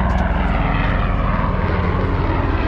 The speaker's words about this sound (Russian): Вертолетик.